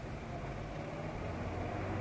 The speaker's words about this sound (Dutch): Luister eens. Hoor je dat? Een auto? Ja. Die komt uit het dorp.